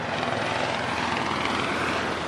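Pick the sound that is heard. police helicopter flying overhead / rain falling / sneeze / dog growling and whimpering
police helicopter flying overhead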